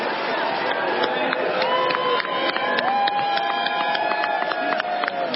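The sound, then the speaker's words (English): A large crowd boos Mitch McConnell loudly and continuously as he casts Kentucky's 46 votes for Donald J. Trump, many voices overlapping in long drawn-out tones that rise and fall over a dense roar, with no pause for about five seconds. “Mitch McConnell getting booed.”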